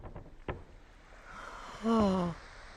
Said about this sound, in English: now we're on a ship. See? So I thought, well, that would be my creaking wood sound on my ship, but it's just I think it's a child's wooden chair.